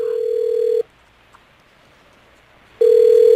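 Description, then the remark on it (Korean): Ringback tone of an outgoing call to a mobile phone: a steady electronic beep sounds, pauses for about two seconds, then starts again. No voices are heard. “항량은 은통에게 이렇게 이르고는 조카 항우에게 서둘러 전화를 건다.”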